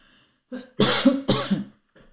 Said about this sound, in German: Augenblick, muss mal ganz kurz husten.